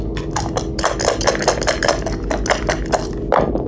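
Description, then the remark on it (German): Dice being rolled in a dice game rattle and clatter in a rapid burst of sharp, hard clicks lasting several seconds, with a steady low hum underneath and no voices. “Hier sind die Würfel.”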